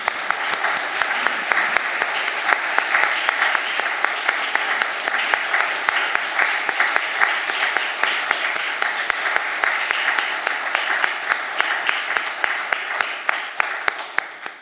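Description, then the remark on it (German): Sustained audience applause in a church after choir singing, a dense steady patter of many hands clapping at an even loudness for the whole stretch, with no voices standing out. “Den Applaus machen wir jetzt und nicht nach den Engeln, ne?”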